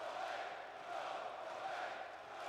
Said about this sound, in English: It is entirely Roman getting booed and chanted at.